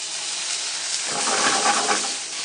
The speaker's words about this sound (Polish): Przesmażamy sobie na początek grzybki.